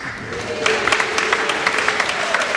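audience applause

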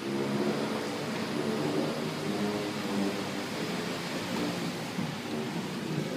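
busy road traffic

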